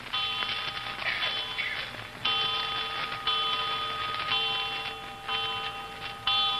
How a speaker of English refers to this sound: Seven times. Did you count the chimes?